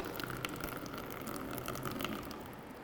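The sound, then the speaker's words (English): Water pours in a steady gush onto a cup with a lid on it, splashing and hissing continuously for a few seconds with no voices; the lid keeps the water out so the cup cannot be filled. “Except that, what happens when you're trying to fill your cup up that bit more? You can't.”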